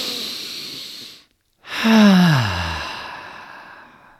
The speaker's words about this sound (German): Du kannst frei atmen, so richtig so.